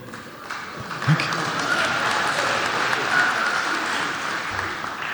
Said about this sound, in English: My wife should be the one getting the applause, but thank you.